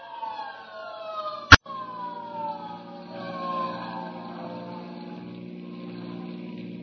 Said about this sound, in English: Hey, there's a hook and ladder on the street right now.